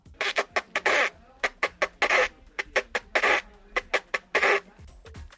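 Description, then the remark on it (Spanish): A partridge calling in a rapid series of harsh, scratchy bursts, some short and clipped, others longer and rasping, repeated in an uneven rhythm with no talking. “Con el número 7, la perdiz.”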